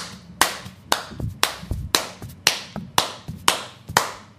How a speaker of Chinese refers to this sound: 於是，我決定拍十下手掌。